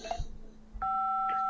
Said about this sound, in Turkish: seni arıyorum, meşgul çalıyorsun.